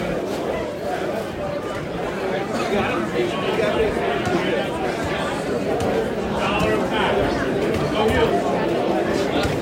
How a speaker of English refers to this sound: There's a mass of humanity. So, just let you listen to the crowd as we try and find a quiet spot.